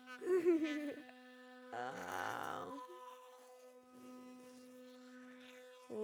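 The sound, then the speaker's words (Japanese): A steady, low electric toothbrush buzz hums without a break, with short vocal sounds rising over it near the start. “この歯ブラシで、あそここすったら気持ちよさそう。”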